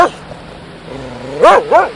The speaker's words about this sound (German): Wo das Bellen eines Hundes für uns im Klangteppich untergeht, wird es für Menschen mit Hyperakusis zum Auslöser für Herzrasen und Schmerz, denn es wird viel lauter wahrgenommen.